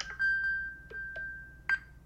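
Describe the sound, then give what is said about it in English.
An iPhone Find My alert, triggered from a Mac, plays a steady, high electronic tone for about two seconds, with a few brief clicks and chirps overlaid. It is moderately loud, with no voices. “So then I just picked up my phone and did the unlock gesture to get that sound to go away.”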